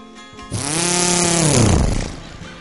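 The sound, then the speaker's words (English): A small two-stroke outboard motor catches with a loud buzzing roar, revs unevenly for about a second and a half with its pitch wavering, then bogs down and sputters out. “I'll have the outboard motor started in a jiffy.”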